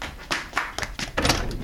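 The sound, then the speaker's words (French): Several firm knocks on a door, five or six raps in a loose, uneven rhythm, moderately loud, with a faint background hiss and no voices. “Tout d'un coup, on tacle à la porte.”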